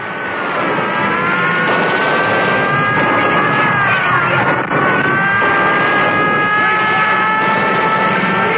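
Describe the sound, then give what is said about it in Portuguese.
A car engine runs loud and steady throughout, its droning whine rising slightly and then holding as the car is dragged toward the cliffs, with no voices. “Ah, vem todo arrastando aquele carro na direção dos penhascos.”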